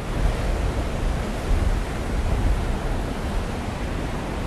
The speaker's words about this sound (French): On s'est abrité, on va essayer d'affronter le vent à nouveau. Que vous entendez derrière, et je vais vous faire entendre quand même les rouleaux derrière moi.